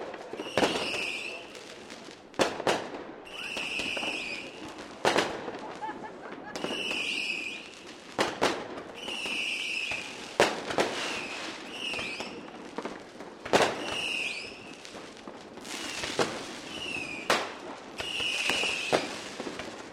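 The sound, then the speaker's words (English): A pallet of fireworks set off at midnight on New Year 2015 pops and crackles continuously, with sharp bangs every second or two layered over dense sizzling bursts and whistling crackles, loud throughout. “Happy New Year! Oh man, we gotta do this again? Another year. And the pallet is off.”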